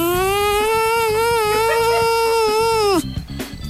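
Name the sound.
honeybee buzzing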